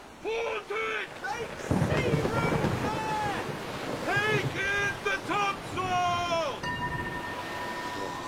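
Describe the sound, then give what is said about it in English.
Rough sea waves surge and roar beneath gusting wind, a steady loud wash of noise, while high, wavering cries rise and fall over the storm. “god of this great vast, rebuke these surges which wash both heaven and hell.”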